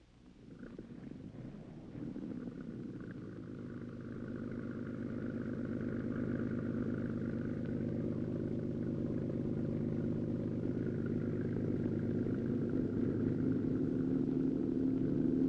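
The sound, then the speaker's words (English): A canal tour boat's engine rumbles steadily during a boat trip through the canals of a city in Holland, a low droning hum that swells up in the first couple of seconds and then holds an even, continuous throb with no voices. “In the city, perhaps the most fun of all is a boat trip through the canals, an important part of the way of life in Holland.”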